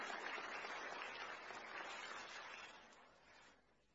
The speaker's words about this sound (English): You can go and sit down. Let's give him a clap for his castle.